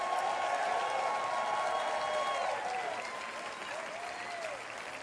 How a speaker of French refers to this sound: Et ce matin, j'aimerais que vous leur donniez un bonjour du Québec, applaudissements et un cri de bienvenue.